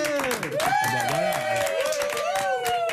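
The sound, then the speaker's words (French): Studio audience applause on RTL radio, greeting the arrival of Julien Courbet: dense, steady clapping held at an even loudness, with voices calling and cheering over it throughout. “Des applaudissements qui saluent aussi l'arrivée de Julien Courbet.”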